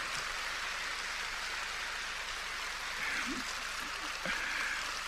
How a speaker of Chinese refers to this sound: 很开心啊，我听到你们的掌声很开心，尤其我看到刚刚很多人没笑，现在都笑了，哎呀，我真的很开心，所以不失笑脸吧。